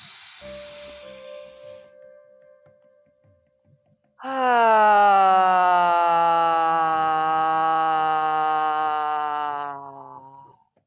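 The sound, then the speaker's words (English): After a soft breathy inhale, a voice sustains a loud, steady open-mouthed toning sound for about six seconds during a guided breathing exercise, resonating in the throat and chest, rich with overtones and sliding slightly lower in pitch before fading out. “And just let it resonate in the throat and in the chest.”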